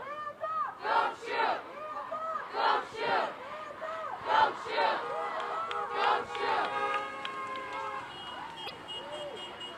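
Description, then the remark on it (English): A large crowd of protesters, mostly teens and younger adults, shouts a rhythmic chant in loud, repeated bursts on Washington Street, with steady car horns honking in support underneath partway through. “The crowd mostly consisting of teens.”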